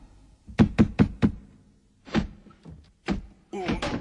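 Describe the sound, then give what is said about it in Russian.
Heavy blows batter a door as Polkan breaks it down and bursts into Zabava's chamber: a fast burst of four thuds, then slower, scattered bangs and a final louder crashing impact as it gives way, forceful, with no talking. “Сломал дверь полкан. Вломился в горницу к забаве.”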